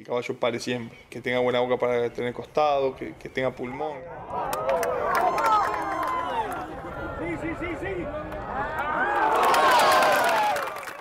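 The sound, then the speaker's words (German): A man talks for a few seconds, then the dense murmur of a large outdoor crowd at a polo championship match on the Palermo polo field takes over, swelling into louder cheering near the end. “Zurück beim Meisterschaftsspiel auf dem Polofeld von Palermo.”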